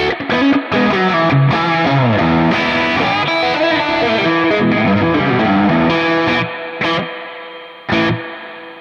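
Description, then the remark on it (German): An electric guitar plays through a Lush Spring spring reverb pedal, with a steady run of chords and notes ringing into a wash of echo. It thins out, then one last strum rings and fades. “Ich habe hier jetzt so einen Lush Spring.”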